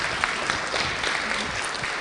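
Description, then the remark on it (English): A crowd applauds steadily, a dense, even wash of many hands clapping at a constant level throughout, with no voices rising above it. “Let's give a round of applause, isn't that great?”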